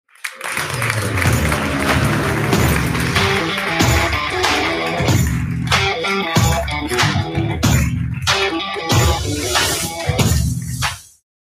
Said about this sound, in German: Ein riesen Applaus, viel Energie